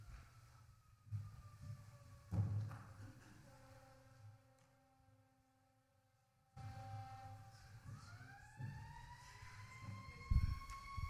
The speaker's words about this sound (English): And the siren's on cue because conflict's about to happen, right?